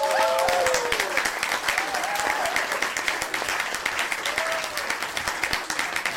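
Steady applause from a crowd, a dense rattle of many hands clapping for about six seconds at an even loudness, with a few faint whoops or voices rising over it.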